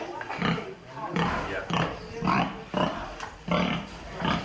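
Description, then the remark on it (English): Pigs at a pig cooperative grunt and snort in a busy, overlapping series of short rough bursts, coming every half second or so at a fairly steady loudness. “We've just been to see a pig cooperative which has been supported and funded by a combination of the local Anglican diocese, Christian Aid and the local tea plantation.”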